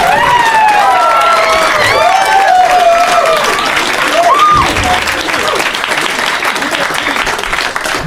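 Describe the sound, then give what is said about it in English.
A large crowd applauds loudly and steadily, dense clapping filling the whole stretch, while high whoops and cheering shouts rise over it early on before the applause carries on alone. “It's finally a big crowd."”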